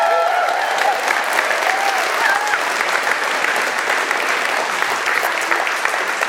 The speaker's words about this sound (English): So if you've never met these guys, you can clap now.